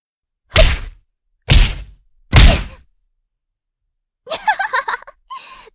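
Three heavy, thudding boxing punches land one after another at a steady beat, loud, followed by a person's pained grunting and gasping.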